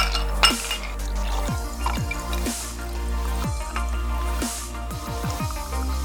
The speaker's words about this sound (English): And strain over ice cubes into a tumbler.